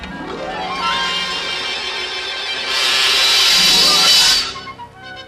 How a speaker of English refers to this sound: Water. Pure, sweet, flowing water. All the water the villagers can use.